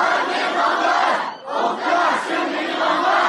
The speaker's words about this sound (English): As shown in videos posted by activists, students and parents gathered outside dozens of Inner Mongolian schools. Some waved signs or shouted, "I am Mongolian."